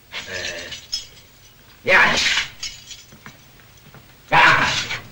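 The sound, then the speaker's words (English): A bunch of prison keys, held by a man in a guard's uniform threatening prisoners, jangles in three bright, metallic bursts: a longer shake at the start, then two loud rattling jingles separated by quieter pauses. “I got all the keys right here, and it's going to be very simple.”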